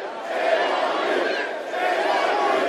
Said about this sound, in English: Roberts was arrested a few years ago at a protest in West Virginia. Crowds gathered to demonstrate against Patriot Coal, a spinoff of Peabody Energy, because the company was trying to reduce benefits for thousands of unionized workers.